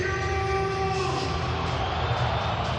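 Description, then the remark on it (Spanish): A large stadium crowd whistles at a player, steady shrill whistles ringing out over a loud, continuous roar of the crowd for the whole stretch. “Algunos pitos. Hay habido algún pito.”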